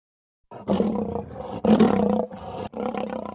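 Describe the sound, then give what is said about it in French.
A lion roars loudly in several deep, rumbling bursts that swell and break off over a few seconds, with no talking. “Voici le lion, le roi des animaux.”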